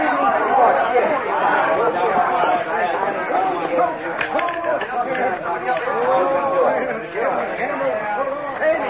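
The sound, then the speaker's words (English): A dense crowd in a bar chatters nonstop, many overlapping voices blending into a steady, fairly loud babble with no single speaker standing out, lasting the whole stretch without pause. “Some crowd, huh?”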